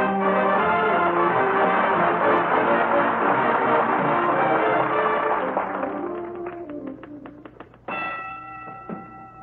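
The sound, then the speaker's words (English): Music fades into a quick run of sharp typewriter key clacks as Fibber McGee types a letter to handwriting analyst Professor John Hancock in the living room at 79 Wistful Vista, on a typewriter that once belonged to a sports writer; a single bright ding of the carriage bell rings out and lingers as the typing resumes faintly. “Bell on that typewriter, dearie.”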